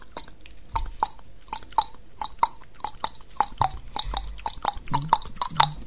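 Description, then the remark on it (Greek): A run of sharp tongue clicks, made by striking the tongue against the roof of the mouth as a tongue exercise, in an uneven, galloping rhythm mimicking a horse's shod hooves clip-clopping, with a few soft low thumps between them and no speech. “Δηλαδή προσπαθούμε να χτυπήσουμε με τη γλώσσα μας τον ουρανίσκο, Έτσι. Είναι σαν να περπατάει το άλογο με τα πέταλα του.”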